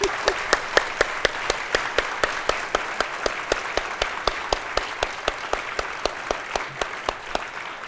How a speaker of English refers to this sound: Okay, thank you very much. We're just getting, let's give a round of applause, good idea, to our presenters.